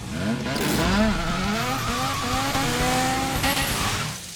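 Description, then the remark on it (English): A tall motorized sleigh's engine roars through the trees and brakes hard, sliding into a squealing, skidding handbrake turn. The loud engine whine sweeps in pitch throughout and cuts off abruptly at the end. “A tall motorized sleigh roars towards him through the trees.”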